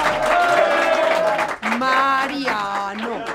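A crowd applauds steadily for a few seconds, with loud overlapping voices cheering and calling out over the clapping throughout.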